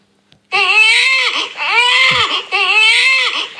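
A baby wails loudly and continuously in three long, rising-and-falling cries separated by brief catches of breath, intense with no other sounds.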